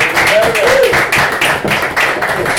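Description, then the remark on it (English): Steady applause from an audience fills the moment, a dense wash of many hands clapping at once, with a few voices calling out faintly underneath. “Thank you for your applause.”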